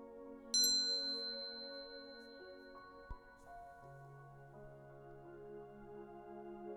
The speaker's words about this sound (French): Et cette cloche te fait plonger de plus en plus profondément en toi.